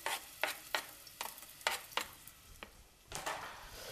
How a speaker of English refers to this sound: Now, let's get the onions in there. What a nice sizzle.